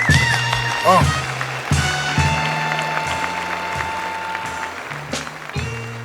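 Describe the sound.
A large audience claps steadily for several seconds, a dense, continuous wash of applause with cheering voices and shouts rising over it.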